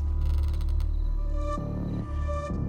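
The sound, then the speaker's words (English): A door in a garage creaks slowly open as a woman nudges it, a loud, drawn-out groan of straining hinges that shifts pitch a couple of times as it moves, with no voices. “She nudges the door and Pierce turns to look.”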